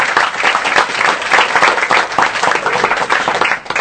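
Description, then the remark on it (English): An evening audience applauds His Holiness Bhakti Chaitanya Maharaj, many hands clapping into a dense, continuous wash of noise that stays loud throughout and eases slightly at the very end. No one speaks over it. “Let us give him another big round of applause.”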